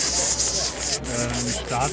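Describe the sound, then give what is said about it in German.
A voice imitates fresh bacon sizzling in a pan: a steady, bright, crackly hiss lasting about two seconds, with a few brief voiced hums slipping in underneath. “Frischer Bacon in der Pfanne.”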